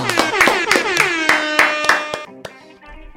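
Steady rhythmic clapping in unison to cheer on France ahead of the France–Morocco World Cup quarter-final, about three sharp claps per second, over a sustained bright musical tone, then a few looser claps as the sound tails off.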